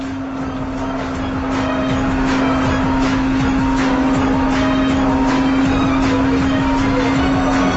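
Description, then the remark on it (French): A video game car drives with a steady, loud engine drone, while repeated crunching bursts of crashing and scraping break through the noise. No one speaks. “Alors, vous avez vu, les accidents sont super spectaculaires.”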